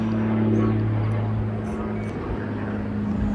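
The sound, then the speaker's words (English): A propeller airplane drones steadily overhead, a low humming rumble with a sustained engine tone that stays fairly constant and moderately loud throughout. “Oh, there's an airplane going over.”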